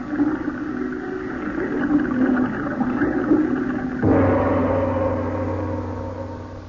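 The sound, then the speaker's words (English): Water gushes steadily from opened spigots flooding a dungeon room, a loud, continuous hiss and roar, then shifts partway through into a deeper, fuller rushing rumble as the flow fills the room. No voices. “And to make the job complete, I'll just open those spigots and flood this room.”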